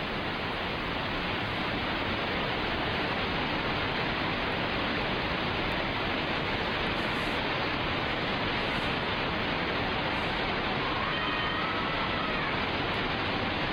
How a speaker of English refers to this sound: It's in the Benias Waterfall in this reserve, in that place I showed you right there to the west toward the coast.